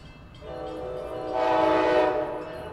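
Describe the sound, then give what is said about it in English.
A train horn sounds in long sustained harmonic tones over the rumble of a passing train at a station platform, swelling louder in the middle before easing off slightly, with no voices present. “Matt Roy stands on the train platform.”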